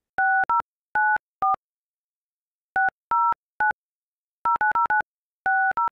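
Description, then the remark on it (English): A series of short touch-tone telephone dialing beeps, pressed in quick clusters separated by brief pauses, clear with no one speaking, dialed at a parents' house and recorded on a phone. “I dialed it up immediately and recorded it on my phone, which, you know what?”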